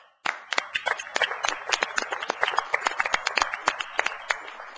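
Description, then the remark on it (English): Meeting attendees applauding together, many overlapping hand claps forming a steady patter that starts abruptly and carries on for several seconds, with no talking. “And I just think that everyone involved in this deserves a round of applause and appreciation.”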